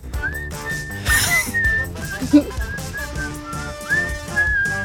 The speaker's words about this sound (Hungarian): Na, te fogsz akár fütyülni? Várj, akkor aktiválom. Fütyüljél. Tudsz fütyülni? Na, figyelj.